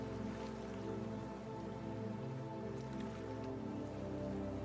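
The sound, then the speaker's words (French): Steady warm rain patters and drips onto forest leaves, a soft continuous wash of droplets with occasional brighter taps, heard alone over a low background hum. “Feuilles comme perlées d'une pluie chaude.”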